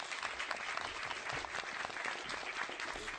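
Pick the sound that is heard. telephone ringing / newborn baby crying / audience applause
audience applause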